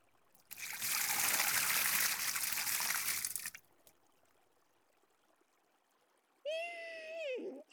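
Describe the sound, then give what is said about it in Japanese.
Steady rush of water pours for about three seconds, rinsing shampoo foam off a person's hair, then cuts off to quiet before a short voiced hum near the end. “じゃあ流しちゃうから目はつむったままにしておいてね。”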